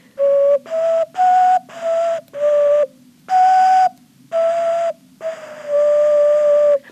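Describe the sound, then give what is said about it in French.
An ocarina-like bird whistle imitating a robin plays eight short, steady hooting notes in a row, each held about half a second with brief gaps, loud, with a faint hum underneath and no talking. “Pour faire une sonorité, on peut prendre peut-être le rouge-gorge.”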